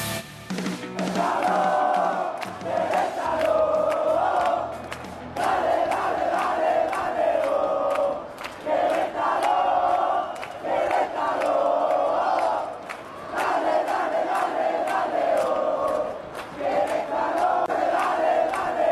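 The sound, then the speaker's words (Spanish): A large stadium crowd chants in unison, a loud, repeating melodic phrase rising and falling in regular cycles about every two to three seconds, sustained for the whole stretch with no one speaking over it; it is a chant set to reappear at the Estadio Corregidora. “Estamos escuchando el canto que reaparecerá en el Estadio Corregidora.”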